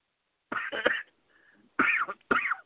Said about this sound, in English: Yeah, I'm going to cough my lungs out, boy.